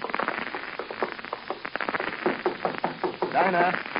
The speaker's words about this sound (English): Well, yeah, there's nothing in my book of etiquette that says I can't knock on her door.